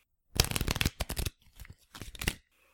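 Playing cards being shuffled for a game of blackjack: a loud burst of rapid riffling flutter, then two shorter, softer riffles with a brief pause between them, no voices.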